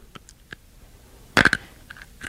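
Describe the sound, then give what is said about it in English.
Loud crunching as something hard is bitten and chewed in the dark: a cluster of sharp cracking bursts midway, framed by softer, scattered chewing clicks and mouth noises. “we have to get to where we can see each other crunching”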